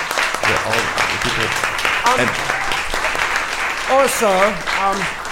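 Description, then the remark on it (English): An audience gives a round of applause for the event organizers, a dense wash of clapping for several seconds, with a few voices cheering and calling out on top of it, rising toward the end. “Let's one more round of applause for the organizers,”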